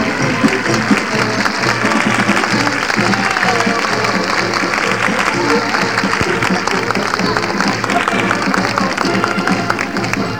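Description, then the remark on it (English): A large crowd applauds and cheers in a dense, steady roar of clapping and voices that stays loud and unbroken for the full ten seconds. “Oh, boy, this crowd's going to go bananas, even though they're not from Monterey.”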